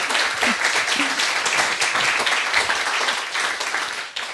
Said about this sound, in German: Gut, dann nochmal herzlichen Dank für deinen Vortrag. Ja, nochmal einen herzlichen Applaus. Danke.